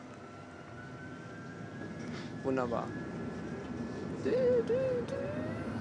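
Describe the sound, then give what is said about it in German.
A tram's door-closing warning chime sounds briefly over the steady rumble of the vehicle interior, with a high electronic whine in the background and a voice speaking a word near the end. “Das ist übrigens das Geräusch, was es macht, bevor es die Türen zumacht.”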